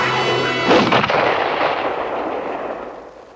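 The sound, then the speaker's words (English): A single sharp rifle shot cracks out as Travis fires at a wolf pinning the dog Old Yeller, followed by a long, rolling echo that slowly fades over a few seconds. No voices are heard. “Travis takes up his gun.”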